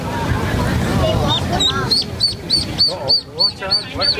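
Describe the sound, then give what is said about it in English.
Ducks quack in a quick, steady series of short, high-pitched calls, roughly eight or nine in a row, clear after a low rumble of background noise at the start. “Okay, so this is ducks.”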